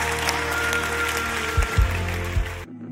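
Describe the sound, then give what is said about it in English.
An audience at a Christian sermon claps steadily for a few seconds in response to a call to clap, a dense, even wash of hand claps with a few low thumps mixed in, then cuts off abruptly into near silence. “Everyone who receives this word, clap your hands and say amen.”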